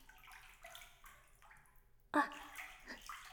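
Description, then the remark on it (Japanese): Water from a shower runs and splashes in a steady, hissing spray, surging louder partway through before settling into a continuous patter. “さすがに湯船で洗うのは気持ちの問題であれなので、シャワーしてきます。”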